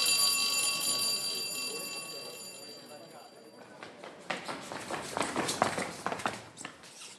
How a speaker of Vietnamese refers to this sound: Sáng tinh mơ khi lũ học trò vẫn đang say ngủ trong chăn, chuông đã reo vang từ khắp các phòng ký túc xá.